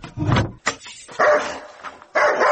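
A dog barks several times in short bursts, a low gruff woof followed by higher, sharper barks with brief pauses between them, loud.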